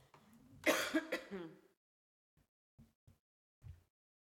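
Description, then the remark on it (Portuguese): A person with a lingering cough clears their throat with a rough, raspy burst of coughing, followed by a few soft, short clicks and gulps. “perdão, tenho que beber água, que isto ainda anda aqui a tosse.”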